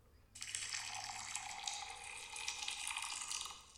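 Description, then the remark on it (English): Water pours in a steady, hissing stream that starts abruptly and runs for about three seconds with a bright, splashy texture and no talking. “One is hot water being poured and one is cold water being poured.”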